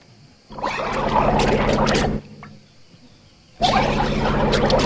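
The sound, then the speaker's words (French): A brand-new boat engine cranks in two long, grinding bursts separated by a short pause, sputtering loudly without ever catching and running. “Stop, stop. Arrête, tu vas noyer les bougies. Quoi? Ça y est, le moteur est HS?”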